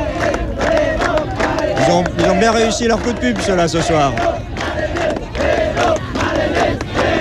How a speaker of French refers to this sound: Les militaires sont acclamés par la population. La marine avec le peuple. Vive la marine, vive les marins.